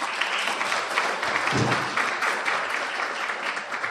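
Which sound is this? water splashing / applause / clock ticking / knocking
applause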